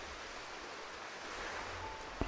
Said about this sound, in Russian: Прими комфортное положение, сидя или лежа, и погрузись в звуки океанских волн.